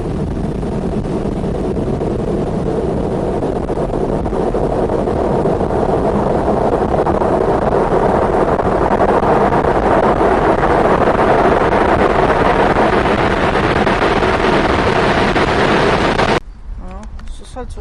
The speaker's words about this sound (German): Tatsächlich ziemlich windig heute. Extrem windig, ja.